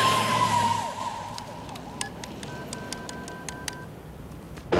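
A rapid run of short cell phone keypad beeps as a man, leaning over a parapet at the very top, taps in numbers; each press gives a brief tone, over a low rumble of traffic and wind.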